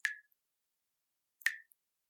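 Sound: tap dripping water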